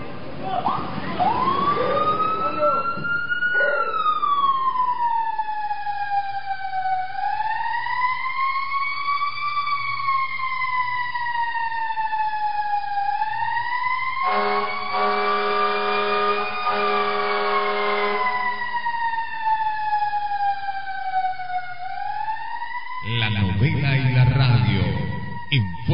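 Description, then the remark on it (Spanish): A loud fire engine siren wails continuously in slow, smooth rising and falling sweeps, with muffled voices and clatter briefly at the start and again near the end; the alarm calling the firemen out in a Spanish-language radio drama. “¡Escucha la alarma!”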